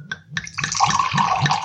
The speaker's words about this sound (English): So, friends, and indeed fellow initiates, if you would raise your glasses, please. We're almost there. I shall pour the wine for the annual toast.